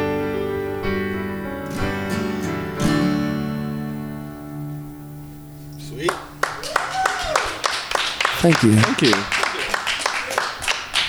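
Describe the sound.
A final sustained musical chord rings out and fades, then an audience of rock climbers breaks into steady, scattered clapping after the song, with a voice briefly speaking over the applause.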